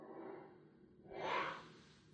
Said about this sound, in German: Du hast gerade einfach so gegähnt? Okay, ja, wird sich nicht mal entschuldigt. Hätte man rausschneiden können.